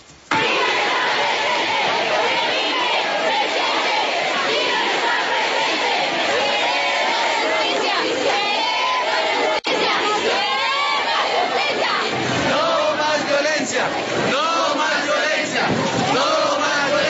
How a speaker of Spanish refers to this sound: de este colegio, el Gran Colombiano, que queda ubicado en el barrio Laureles, en la localidad de Bosa, marcharon esta mañana, rechazaron la muerte del niño de 8 años Dylan Fabián, lo recordaron y esto fue lo que gritaron durante la movilización.